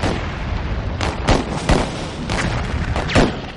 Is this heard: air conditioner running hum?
no